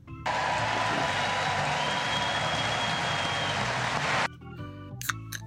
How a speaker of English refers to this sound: Inexplicably raucous Melania ovation. The First Lady of the United States.